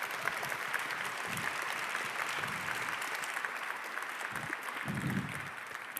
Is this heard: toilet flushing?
no